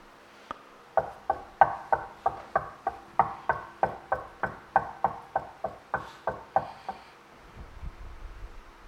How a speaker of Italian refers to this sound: Sta bussando. C'è qualcuno che oda?